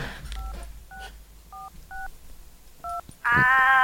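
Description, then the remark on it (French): Five short telephone keypad dialing tones beep at uneven intervals over a quiet background, followed by a louder, buzzy sustained tone that cuts in at the end. “Est-ce que j'ai laissé mon téléphone?”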